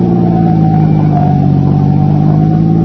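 A car engine drones loudly and continuously, a steady low hum with a slight rise in pitch as it keeps driving. No one speaks.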